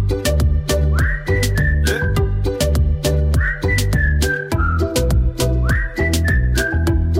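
A bright whistled melody with sliding notes repeats its short phrase twice over a loud, steady band backing of thumping drums, bass and keys, with no voices singing.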